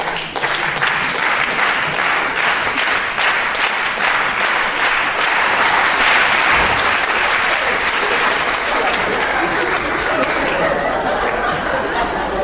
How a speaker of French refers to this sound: Mesdames, mesdemoiselles, messieurs, nous allons maintenant interpréter tous ensemble, si vous le voulez bien, un concerto d'applaudissements pour spectateurs heureux. Applaudissements.